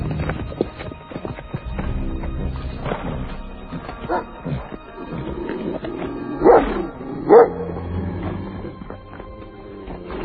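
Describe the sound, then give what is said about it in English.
A dog gives two sharp, loud barks about a second apart, rising out of a busy background of rustling and clattering movement that continues throughout. “The dog does not approve.”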